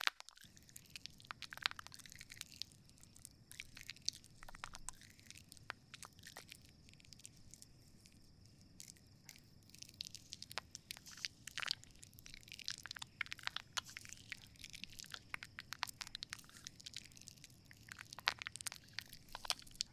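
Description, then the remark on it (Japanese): An ear being washed and scrubbed, with a dense, steady stream of crisp crackling and crunching pops over a soft low rumble, continuing for the whole stretch with no talking. “お耳をきれいに洗っていこうね。”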